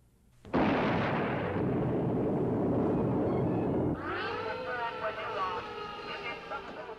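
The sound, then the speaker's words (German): A sudden loud explosion bursts in after a brief quiet, followed by a sustained roaring rumble for several seconds, which gives way to wavering, tonal, howl-like sounds at the end. The explosion destroyed the new one-storey home of Reverend A.D. King, brother of Martin Luther King, in Inslee. “Eine Explosion in Inslee zerstörte das neue einstöckige Wohnhaus von Pfarrer A.D. King, Bruder von Martin Luther King.”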